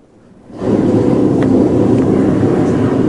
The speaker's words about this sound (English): like those ocean waves